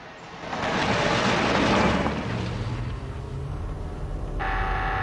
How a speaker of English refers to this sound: The driver picks up a buzzing telephone.